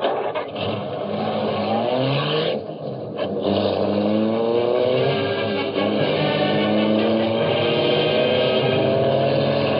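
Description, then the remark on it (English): A car engine revs up and accelerates steadily, its rising whine continuing loud for several seconds as the car pulls away from a curb, with no other sounds. “He's getting into car at curb.”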